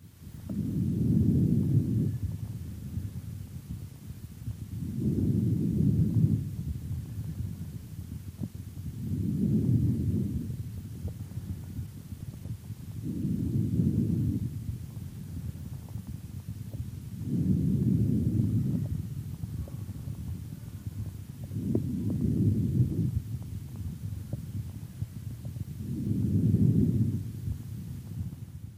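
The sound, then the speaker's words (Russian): Harsh breathing through a stethoscope: seven muffled, low rushing breaths in a steady rhythm, about four seconds apart, each swelling and fading at a similar length, with no voices. “Таким образом, жесткое дыхание характеризуется несвойственным нормальному везикулярному дыханию, равенством продолжительности фаз вдоха и выдоха”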